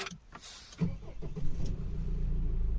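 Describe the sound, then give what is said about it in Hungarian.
A 2.2-litre diesel engine in an automatic car cranks and catches, then settles into a steady, low rumbling idle with a slightly clattery edge. No one speaks. “Figyeld a, figyeld a hangját, és mondd meg, hogy milyen motor van benne.”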